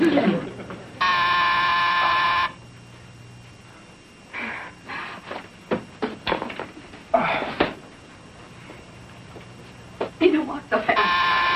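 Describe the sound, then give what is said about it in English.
A harsh, steady doorbell buzz, rung by someone bringing a special delivery, sounds for about a second and a half, then voices talk before the buzzer goes off again at the end, loud and flat-pitched. “Oh, sorry, we didn't hear the bell.”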